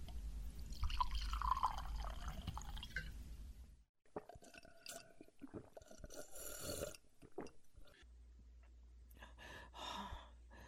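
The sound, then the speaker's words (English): Whiskey is poured into a glass in a steady trickling stream, followed by a few scattered drips, clinks and small clatters against a low background hum. “Here, have some more whiskey.”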